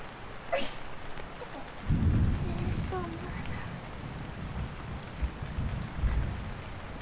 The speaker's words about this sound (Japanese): 雨？今日の天気予報では雨なんて言ってなかったのに。どうしましょう。傘持ってませんね。